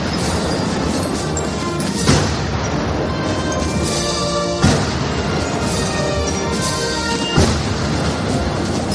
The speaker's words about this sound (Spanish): Lo estás escuchando, los toques, el himno, las marchas militares, también los aviones y las salvas de honor